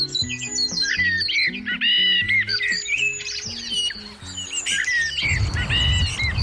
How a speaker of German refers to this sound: Gefühlt zwitschert und piept es an allen Ecken. Doch was genau schwirrt da über meinem Kopf, sitzt hoch oben in den Ästen?